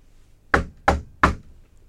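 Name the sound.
knocking on a door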